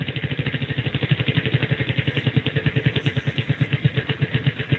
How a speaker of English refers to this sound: All right, spinning the wheel.